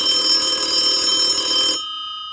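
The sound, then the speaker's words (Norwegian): A phone rings once on the line as an outgoing call is placed, a loud, bright, buzzing ring that lasts under two seconds, then cuts off, leaving a brief fading ringing tail. No one speaks. “Jeg tror vi rett og slett bare ringer til han”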